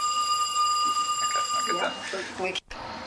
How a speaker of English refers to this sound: Okay, you were telling me about your notice that you had out, the phone rang.